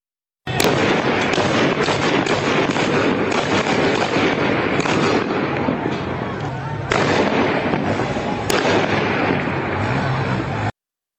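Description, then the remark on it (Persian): Dense, continuous bursts of heavy gunfire crackle and rattle in the street in Izeh for about ten seconds, loud, with a few sharper cracks standing out above the steady barrage and faint voices mixed in. “بخشی از ویدئویی که در اون صدای تیراندازی در ایزه شنیده میشه این رو هم گوش کنیم.”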